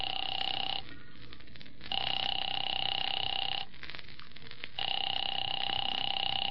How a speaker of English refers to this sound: Phone seemed to ring forever.